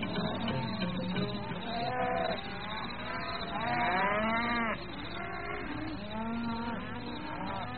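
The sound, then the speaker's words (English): Cattle in a kraal low repeatedly in overlapping, drawn-out moos, a restless herd calling over one another with rising and falling pitches, steady and fairly loud throughout, no talking. “Listen to the cattle, Kosi.”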